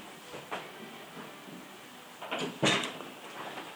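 A door opens with a couple of clunks and a rattling thud, set against a steady background hum; no one speaks.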